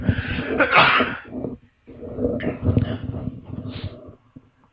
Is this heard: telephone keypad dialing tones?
no